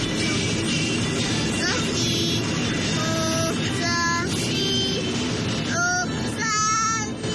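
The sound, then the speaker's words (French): A 3-year-old child sings a radio station's short, bright melodic jingle in a few high-pitched bursts of notes, filmed by his father in a stopped car while waiting for someone, over the steady low rumble of the car's interior. “il a 3 ans et déjà à cet âge-là, il est fan de Nostalgie au point de chanter le jingle”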